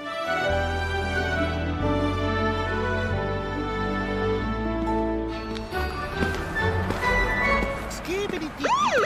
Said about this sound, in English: That's a cool siren.